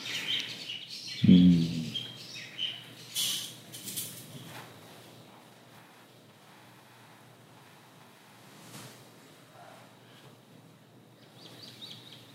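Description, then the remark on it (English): Birds chirp intermittently in the background, bright little tweets scattered across a quiet scene, with a soft thud near the start and faint rustling; no one speaks. “Yes, the birds are part of our entourage, apparently.”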